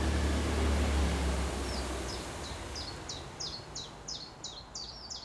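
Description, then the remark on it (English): A chiffchaff, a greenish leaf warbler, sings a steady series of repeated high chirping notes, starting softly and growing clearer, over a constant breezy outdoor hiss with some low rumble at first. “It's a chiff-chaff, it's a warbler, a leaf warbler, so it's basically a greenish bird.”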